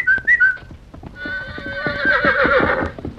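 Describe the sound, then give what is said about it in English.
A horse, White Star, whinnies loudly with a long, shaky neigh while hooves clip-clop in a steady trotting rhythm as it trots to a barrier. A brief high whistle from a boy sounds at the start. “White Star was strong again and trotted to the barrier when he heard the boy's whistle.”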